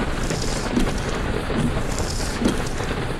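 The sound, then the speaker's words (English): Steady, dense rain pours down without a break on a dark, wooded country road while driving, a constant hiss filling the scene, with faint low rumbles of thunder beneath. No voices. “It has started to rain.”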